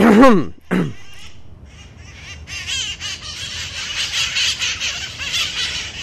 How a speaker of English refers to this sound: It's the Parrots of Telegraph Hill. The Parrots of Telegraph Hill appear regularly in their namesake neighborhood